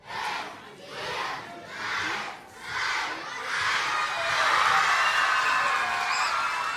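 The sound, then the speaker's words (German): Several hundred children shout a countdown in unison to congratulate author Kirsten Boye on her 75th birthday, four rhythmic chanted counts roughly a second apart, then break into a loud, sustained cheer of high-pitched voices. “So klingt es, wenn mehrere hundert Kinder den Countdown zählen, um ihrer Lieblingsschriftstellerin zum Geburtstag zu gratulieren.”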